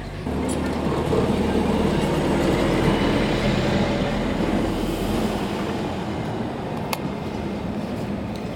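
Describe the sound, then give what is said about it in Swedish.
A bus rumbles past, a loud, steady low roar with engine and road noise that fills the first few seconds and then gradually fades as it moves away. “Men det går inte riktigt, för här kom precis förbi en buss och det är en av anledningarna till det.”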